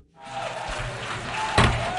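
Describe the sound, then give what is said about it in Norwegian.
Delegates in the UN General Assembly hall roar with mixed jeers and clapping as Israeli Prime Minister Benjamin Netanyahu goes up to the podium, a sustained wash of voices and applause with a sharp burst of noise near the end; the chair had to call for order. “Det var hoiing og applaus, og ordstyreren måtte be om ro.”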